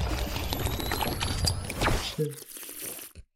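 Water splashes steadily into a glass for a couple of seconds, its tone rising as the glass fills, poured for a toast, before a short vocal sound and a few clinks close it out.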